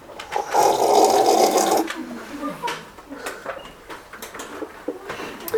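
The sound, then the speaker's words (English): Someone drinks a glass of water, starting with a brief rushing, sloshing burst, followed by a series of soft gulps and small clicks with quiet pauses between. “I'll have a drink of water.”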